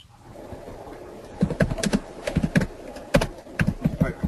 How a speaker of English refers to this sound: But if I can hear her typing, then I should hear her speak. Yeah, we can hear you typing.